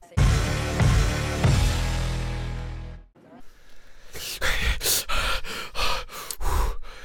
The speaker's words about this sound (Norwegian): Nei, jeg bare innså at jeg pustet i mikrofonen, så jeg tenkte jeg ikke gjerne skulle gjøre en greie ut av det.